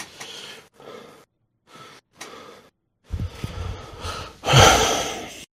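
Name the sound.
heavy out-of-breath panting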